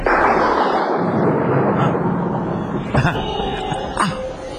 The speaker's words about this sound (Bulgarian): Ти май трепериш, да не би да се оплаши от гърма.